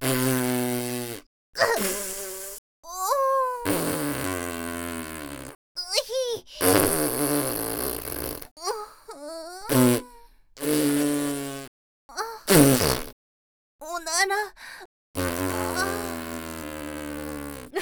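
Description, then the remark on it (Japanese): A long run of loud farts from an older sister, each a buzzy, tonal blast that wavers and slides in pitch, varying in length and separated by short silent gaps. “やっとおならガードが解けた。”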